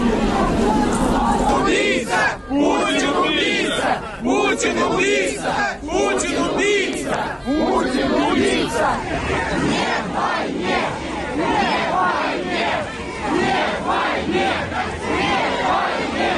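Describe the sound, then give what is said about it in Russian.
A huge crowd of several thousand people walking from the church to the cemetery after Alexei Navalny's funeral service, with mounted police on the route, chants and shouts together, a loud, dense wall of massed voices rising and falling in uneven surges, with no single speaker standing out. “Несколько тысяч человек идут от церкви к кладбищу.”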